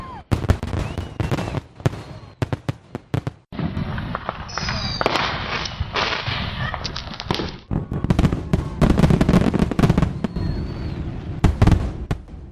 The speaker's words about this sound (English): That's the way to get into a new year with some nice fireworks.